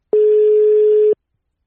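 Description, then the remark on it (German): A single steady, mid-pitched ringback tone sounds on a phone line for about one second, then stops, leaving silence. No one speaks. “Jetzt klingelt's.”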